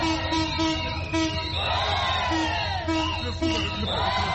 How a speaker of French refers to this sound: La circulation du train facilite d'autres activités économiques telles que le commerce des produits agricoles près de la gare centrale de Brazzaville. Ici, toutes les vendeuses ont applaudi l'arrivée du train.